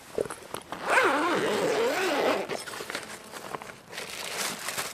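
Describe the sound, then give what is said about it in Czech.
A bag's zipper is pulled open in one long, rasping stretch, followed by scattered rustling and crinkling as bungee pump fitness poles are lifted out. No one speaks. “Já jsem moc zvědavá, takže vybalíte je? Vybalím.”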